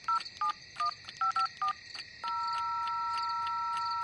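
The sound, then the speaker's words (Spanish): Six quick telephone keypad tones beep in an uneven rhythm, clear, as someone dials a phone to call a person again, followed by a steady continuous phone tone that holds to the end. No one speaks. “Pero llámale otra vez, entonces.”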